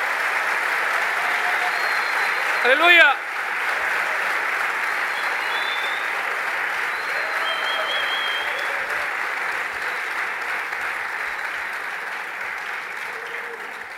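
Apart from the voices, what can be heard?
audience applause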